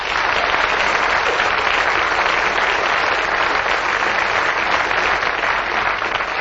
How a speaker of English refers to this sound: Thank you for that applause here in the studio.